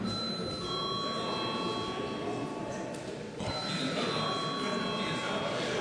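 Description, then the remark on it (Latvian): A continuous electric bell rings loudly and steadily for several seconds, with a brief dip midway before resuming, a sustained metallic trill rung to call a vote in a parliamentary session. “Lūdzu zvanu.”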